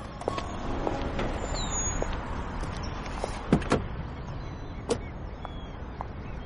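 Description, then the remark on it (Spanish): A woman returns to her car: the door shuts with a couple of solid thumps, followed by another clunk, over a steady low engine rumble as the car starts up and idles. No one speaks. “Vuelve al coche. Arranca, que no se te escape.”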